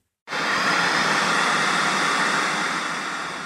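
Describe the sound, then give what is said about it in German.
After a brief moment of silence, loud white noise from the sound installation "White Noise Absolution", built from an old confessional, switches on abruptly: a steady, full-spectrum hiss that holds constant for about three seconds and eases off only slightly at the end. “Gott hat Sendepause. Kein Empfang. Weißes Rauschen.”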